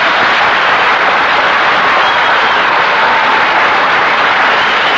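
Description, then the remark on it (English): A large studio audience applauds loudly and steadily as a comedian is introduced, a dense wash of clapping that holds at full strength for several seconds with no voices on top. “Just like the rehearsal applause.”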